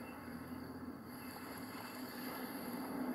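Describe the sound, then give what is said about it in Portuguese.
A steady, continuous wash of ocean waves with a constant low hum underneath, fairly loud and even throughout, with no voices. “Quando os pensamentos surgirem, simplesmente solte-os e retorne sua consciência ao som das ondas.”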